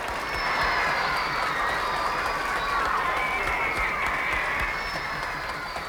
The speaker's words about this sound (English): How about a nice round of applause for our drummer